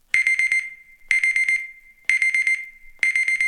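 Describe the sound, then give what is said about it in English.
An electronic wake-up alarm beeps loudly in quick bursts of four rapid pips, repeating about once a second, with a steady high tone ringing between bursts. No voices are heard. “This one beeps when it's time to wake up.”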